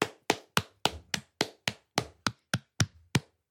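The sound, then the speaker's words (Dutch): A lone person claps their hands about a dozen times at a steady, brisk pace, each clap sharp and crisp, with no talking alongside. “Ik ga even applaudisseren.”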